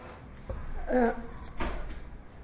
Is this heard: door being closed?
yes